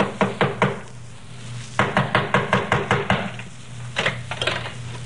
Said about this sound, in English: It was last night, about 9 o'clock, I think. I was alone here in our home. Someone knocked on the door.